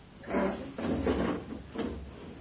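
A chair scrapes and bumps across the floor in three short, fairly loud drags as it is moved to make room for someone, with no talking.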